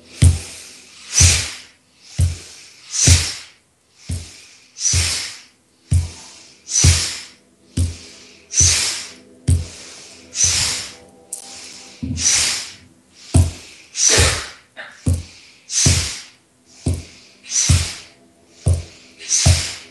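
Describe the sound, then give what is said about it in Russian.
Steady breathing: sharp, airy breaths in and out repeating about once a second for the whole stretch, fairly loud and evenly paced, with no talking. “И сделаем обычный вдох, обычный выдох. И дышим. Вдох, выдох.”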